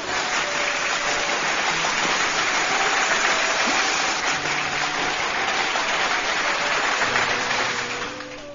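A crowd applauds a poem read at an evening event, a steady, dense wash of clapping that holds loud for several seconds before tapering off near the end, with no voices heard.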